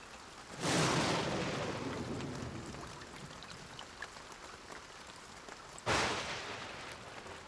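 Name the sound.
rain with thunder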